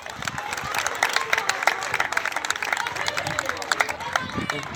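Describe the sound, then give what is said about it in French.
A crowd of participants applauds themselves at the end of a community day co-organized with youth associations in Seis, dense overlapping clapping that stays loud and even throughout, with scattered cheers and murmuring voices mixed into the noise. “Vous pouvez vous applaudir bien fort.”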